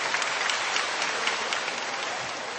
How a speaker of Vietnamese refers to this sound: Một tràng pháo tay để chúng ta đón chào những anh chị em ấy.